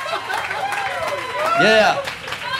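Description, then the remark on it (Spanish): The audience at the Halloween edition of the show Dulce Compañía applauds steadily as voices cheer and whoop over the clapping, swelling to a loud peak shortly after the midpoint before easing slightly. “Fuerte aplauso para la gente que está aquí.”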